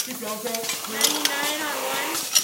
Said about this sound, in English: Now Corona's elated and relieved because Brado hired a mobile canning company to set up a heavy but compact machine for the first time. It fits snugly between his brew kettle and fermentation tanks.